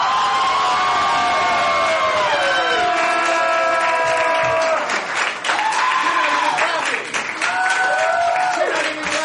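Loud, continuous applause from a live show audience welcoming a performer to the stage, with shrill whoops and cheers sliding up and down in pitch on top of the clapping throughout.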